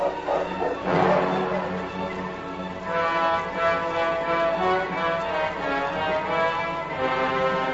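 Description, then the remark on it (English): A dog named King barks and yelps in a run of sharp, excited calls, with whimpering, tonal cries in between, in fading daylight, fairly loud and continuous with no talking. “He was about to stop his team and make camp in the fading daylight when King barked and stopped.”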